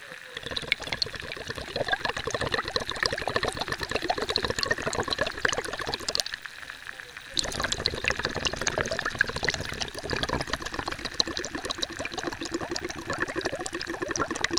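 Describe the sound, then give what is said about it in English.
A bath bomb fizzing in a tub of water, recorded underwater with a hydrophone, heard as a dense, steady crackle of tiny bubbles, briefly dipping quieter partway through before resuming just as busily, with no voices. “how to make your own hydrophone and how to, you know, put a bath bomb in a tub of water and listen to that.”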